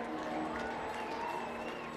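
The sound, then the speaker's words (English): A crowd applauds and cheers for an Amazon employee taking the mound to throw a first pitch in Las Vegas, in a steady, unbroken wash of clapping and voices that holds at an even level for about two seconds. “I want you to give a round of applause, Michael Westerfield.”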